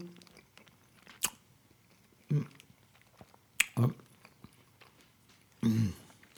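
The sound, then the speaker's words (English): Someone chewing a veggie burger live on a webcast: a few sharp, clicky bites and three or four short, mushy crunching bursts at irregular intervals, separated by near-quiet pauses, with no talking. “Live on a webcast, I'm eating them.”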